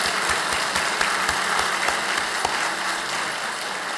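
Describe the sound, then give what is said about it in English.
A crowd claps steadily in a round of applause for Mother Mary on Mother's Day, a dense wash of many hands with sharper individual claps popping through, sustained at an even level for the whole stretch with no voices. “Let's have a round of applause for our mother.”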